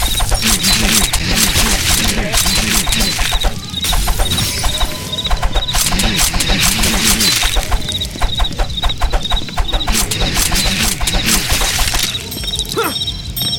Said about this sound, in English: Oh, breaking out of windows. Ow! We have more guys breaking out of windows here. You know, that's a perfectly good window.